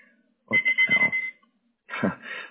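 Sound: timer alarm going off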